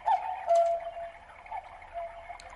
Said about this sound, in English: There you have it, the cuckoo clock at Mellet's Emporium